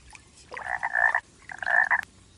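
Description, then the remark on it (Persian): A frog sitting on a flat rock with its head raised croaks loudly in two long, buzzing calls separated by a short pause, a balloon-like sac under its throat filling and emptying, with no voices present. “قورباغه آوازخون شیرجه زد توی آب و چیزی نگذشت که هر دو با هم ناپدید شدن.”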